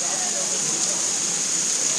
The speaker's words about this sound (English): Yeah, the wind is just blowing sheets of rain.